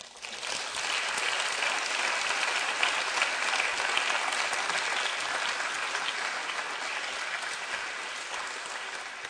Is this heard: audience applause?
yes